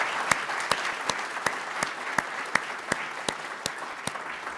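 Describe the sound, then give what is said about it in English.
A crowd applauds steadily for Representative Yarmuth, a dense wash of clapping with a few sharper claps popping out at regular intervals over several seconds. “Please give him another round of applause.”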